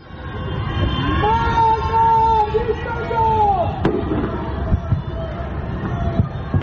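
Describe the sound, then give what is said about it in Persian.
Anti-government shouts ring out in long, drawn-out calls from the dark windows of homes across the night in the capital and other cities, on Tuesday night, 21 Bahman 1404. They overlap with a steady crowd murmur, while sharp cracks and pops of government fireworks burst intermittently throughout. “سه‌شنبه شب 21 بهمن 1404، جرقه های آتشبازی حکومت میخندند، اما از پنجره های تاریک خانه ها فریاد های ضد حکومتی در دل شب پراکنده میشوند.”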